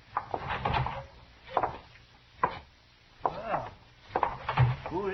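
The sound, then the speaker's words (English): A wooden jail door is handled and pushed open with a clunk, followed by a few irregular, heavy footsteps on a wooden floor, with no talking. “Now open the door and go right on in.”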